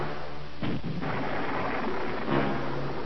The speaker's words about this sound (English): The construction dock's roiling explosions approaching in sequence shook the Hound's frame, the metal of its hull grating against the rubble-strewn area on which it had crashed.